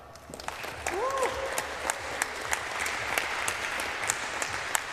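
An audience claps steadily to welcome a speaker to a talk about hardware security, a dense crackle of many hands sustained for several seconds at moderate loudness, with a brief rising whoop or cheer near the start.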